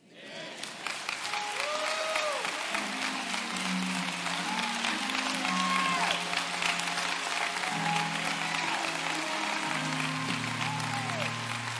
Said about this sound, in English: Come on, you can do better than that. Come on, let's give these men of God a hand clap of praise. It's Resurrection Sunday morning.